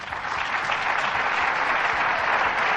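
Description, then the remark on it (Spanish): Steady, dense applause from many hands at a government press event, with business leaders in the audience clapping, a continuous bright clatter of claps holding an even loudness throughout without pauses or voices. “Venga, y todos ahí aplaudiendo, ¡bravo, bravo!”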